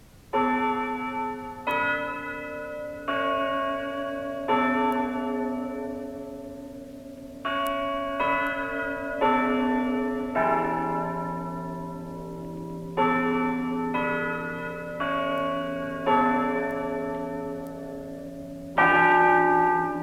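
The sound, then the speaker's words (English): Church bells peal in a steady sequence, one bright strike every second or so, each ringing tone overlapping the last as it fades. Full sound, with no voices. The bells are named Gaudy, Sabaoth, John, Jericho, Jubilee, Dimity, Batty Thomas and Tailor Paul. “Let the bells keep turning.”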